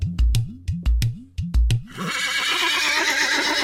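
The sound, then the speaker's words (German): A large horse carrying a rider neighs as it passes by, in a quick, pulsing series of loud bursts, then the call gives way to a steady rustling, rushing noise. No one speaks. “Und auf dem großen Pferd, das ihm folgte, saß ein Mensch. Er ritt vorbei und ich ging weiter.”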